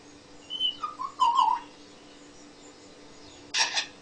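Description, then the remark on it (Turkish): A bird that imitates other birds gives a few clear whistled notes, then after a pause produces a short, sharp double click-burst imitating a camera shutter, with a faint steady hum beneath. “Fotoğraf çek makinesi sesi çıkartıyor.”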